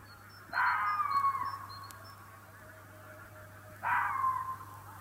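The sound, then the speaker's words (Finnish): Two harsh, drawn-out screams from a red fox walking in a field in spring mating season, each starting loud and raspy then sliding down in pitch and trailing off, separated by a few seconds of quiet with a low steady hum. “niin mikään ei piristä niin paljon kuin semmoinen pellolla kävelevän ketun kiimainen huuto.”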